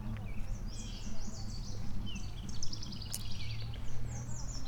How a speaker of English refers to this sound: What is moving around over here in the... Oh, just a bird? Just a burbly burb? Yeah.